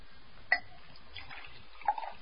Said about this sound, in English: Would you pour me a glass of water? There's a carafe here on the table.